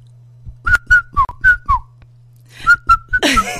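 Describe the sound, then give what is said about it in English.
Ten-year-old boys whistle a song's short melodic tune in two quick phrases of clear, bright notes separated by a brief pause, fairly loud, over a steady low hum, ending in a breathy burst. “I mean, the other day I was walking and these 10-year-old boys were being just naughty and they started whistling.”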